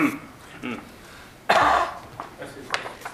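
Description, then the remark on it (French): A sharp, loud, sudden cough bursts out midway through, with quieter, muffled voices murmuring before and after it. “Je sais pas, je tousse tout d'un coup.”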